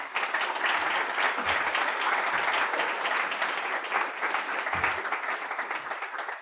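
Sustained applause from a crowd, a dense, steady wash of many hands clapping at even loudness for several seconds, with no voices standing out.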